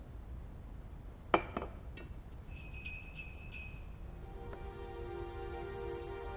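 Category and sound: signal or alarm, bells ringing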